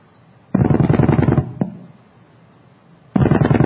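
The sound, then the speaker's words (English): Telephone dial pulses tapping out nines, sent out to a repeater: a quick, even burst of about nine loud clicks, a lone click, a quiet gap, then another rapid run of pulses starts. No one speaks. “Now here's my doing niner, niner, niner, niner.”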